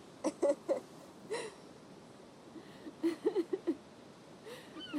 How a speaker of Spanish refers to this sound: Él sonríe, pero se gira serio al escuchar a la gaviota. Esta aletea sobre una roca.